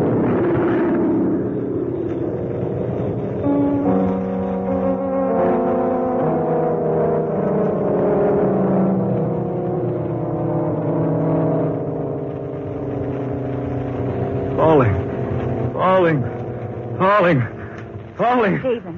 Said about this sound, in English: What's that noise? The New York plane. What's she so low for? I don't know. She's too low. What's wrong with her? Good Lord. She's on fire.